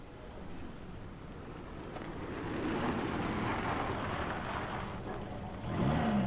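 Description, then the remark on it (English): A minicab's car engine rumbles steadily, growing slightly louder as it draws near, with a brief rise in revs at the end as it pulls up, on a late November evening in Hampstead. “Your minicab, sir.”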